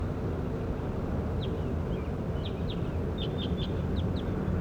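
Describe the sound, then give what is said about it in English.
A bird, recorded and identified as bird J9, gives a series of about eight short, high chirps, spaced irregularly and growing more frequent toward the end, with bird 27 responding, over a steady low rumble of background noise. No one speaks. “Start recording bird J9.”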